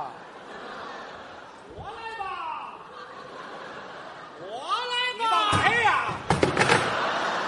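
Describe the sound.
A chair is moved about on a stage, giving a cluster of loud knocks and scrapes near the end, while voices talk and an audience chuckles in the background.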